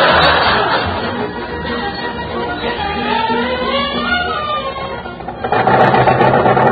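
A car engine runs loud with a rapid, rattling mechanical knock, the engine pinging, steady throughout, its tone rising and falling before surging briefly near the end.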